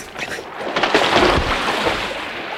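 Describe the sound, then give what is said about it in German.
A piece of partly fossilized wood, mineralized by seawater, is thrown into water and lands with a single splash and floats, followed by brief sloshing, heard against a steady wash of wind and lapping water outdoors. “Ich werfe dieses Stück hier ins Wasser.”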